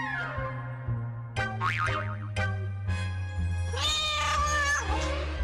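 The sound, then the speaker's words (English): A cartoonish fat cat meows in drawn-out, wobbly yowls, with several bright sweeping cries near the end. A steady low musical drone runs underneath, and no one speaks. “Suddenly, a scary fat cat comes.”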